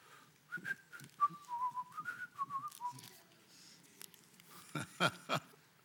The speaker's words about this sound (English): Somebody liked my whistling out there.